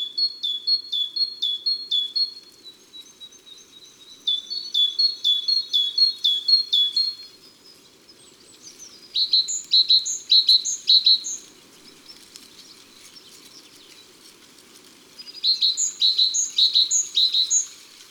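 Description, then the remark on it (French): Great tit song: bursts of bright, high two-note phrases repeated quickly in a steady see-saw rhythm, separated by short pauses, over a faint low background hum. “C'est la plus costaud et la plus sonore des mésanges.”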